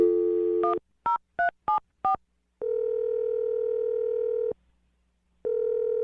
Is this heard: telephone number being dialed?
yes